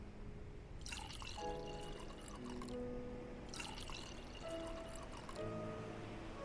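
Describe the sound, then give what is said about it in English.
Veen water from Finland is poured from a pitcher into a glass twice, each pour a steady splashing stream lasting a couple of seconds, with a rising ringing pitch as the glass fills. “And if you're thirsty, there's a pitcher of Veen water right there.”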